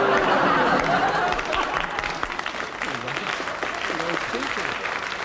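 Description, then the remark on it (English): A loud, steady wash of audience applause, dense clapping that holds for several seconds and eases slightly toward the end, with cheering or voices rising faintly beneath it. “The only applause I've ever resented.”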